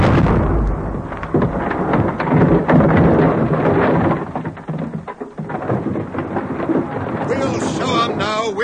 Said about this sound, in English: Okay, corporals, fire the Piat.